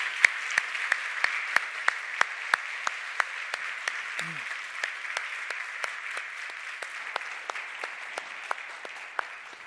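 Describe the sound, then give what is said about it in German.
Steady audience applause for a band, who make the music, act in the plays and host, fills the whole stretch, a dense patter of many hands clapping at an even level with sharp individual claps popping out of the wash. “Ich finde, wir können mal einen großen Applaus geben.”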